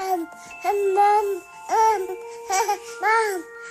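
A baby babbles in four or five short, high-pitched bursts with brief pauses between, clear, with a hint of giggling mixed into the cooing.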